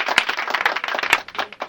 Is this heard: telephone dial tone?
no